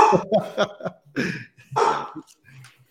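A dog barks in a rapid, irregular series of sharp yelps and woofs, moderately loud, with brief pauses between bursts and a few softer barks at the end.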